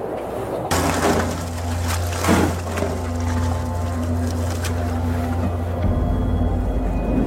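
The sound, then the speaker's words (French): A boat's engine drones steadily while the hull grinds and crunches through broken ice in summer 2017, with sharp cracking and splintering bursts rising over the constant rumble, loud, with no voices. “Nous étions sur votre bateau, le Wai, à l'été 2017. C'est vous, Emmanuel, qui étiez à la barre.”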